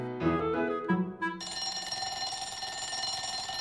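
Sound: school bell ringing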